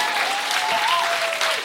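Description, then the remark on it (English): A live show audience claps for themselves steadily in a dense, continuous wash of applause, with a faint high whistle-like tone gliding through it. “You can clap for yourselves.”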